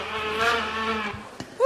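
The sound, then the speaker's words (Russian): A voice imitates a housefly's buzz with a steady, wavering hum lasting just over a second, moderately loud, ending with a short rising vocal sound. “Муха.”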